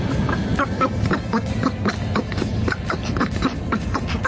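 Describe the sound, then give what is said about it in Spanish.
A rapid, garbled, duck-like quacking voice chatters nonstop and loudly, like cartoon duck speech, with quick bursts running together for several seconds; it is what was playing on COPE Cádiz radio during the programme. “Parece el Pato Dona, que te han cambiado, te han pegado el cambiazo, mi hermano.”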